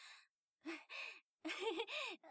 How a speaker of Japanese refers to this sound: 息遣いが荒いですか？でもそれは仕方ないことなんです。あなたとお話ししてると思うと仕方ないことなんです。